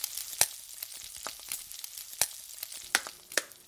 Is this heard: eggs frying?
yes